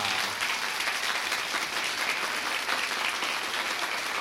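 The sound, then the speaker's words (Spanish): An audience claps together in a dense, steady burst of repeated applause, starting and stopping together on a spoken cue as it will be used in a show, holding at an even loudness for about four seconds, with no voices over it. “Tal como se usará en el show y al igual que con la sílaba ja, será hacer el aplauso de manera repetida.”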